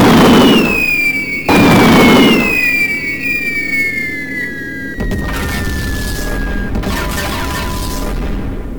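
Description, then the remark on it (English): Two loud booming blasts go off in quick succession while high whistling tones slide steadily downward in pitch, followed by another burst that settles into a sustained rumbling roar: incoming missiles intercepted by a computer-controlled system, detonating at 532 and 197 meters. “Incoming missiles were successfully intercepted via control of the computer system.”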